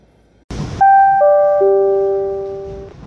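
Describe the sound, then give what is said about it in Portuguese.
A short burst of noise, then a three-note descending electronic chime of a train station platform announcement signal, ringing clearly with the last tone sustained and fading. No voices. “Passageiro, ao desembarcar, observe o espaço entre o trem e a plataforma.”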